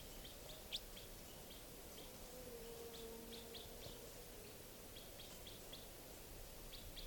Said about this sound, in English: Recording that wild bird. The juvenile is still around. It's been coming down onto the cages. I could easily get a shot at it right now. This is it calling.